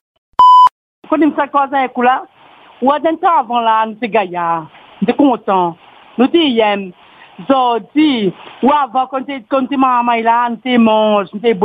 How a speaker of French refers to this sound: Vous avez une minute pour laisser votre message. Après le bip sonore, parlez.